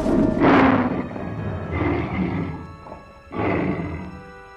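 tiger growling

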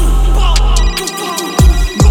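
phone ringtone ringing

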